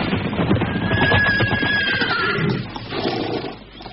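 Horses of Pajang soldiers neigh loudly over a dense clatter of hooves that slows and stops as the riders pull on the reins, the whinny rising to a high sustained note before the noise gradually fades.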